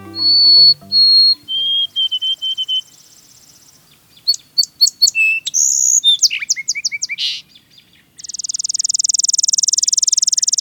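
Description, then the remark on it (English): A sparrow sings loudly: clear whistled notes and a quick run of chirps, then a sustained buzzy trill that ends the phrase. “Some birds, sparrows come to mind, have a remarkable knack for staying out of sight. We sometimes don't even know they're nearby until they sing.”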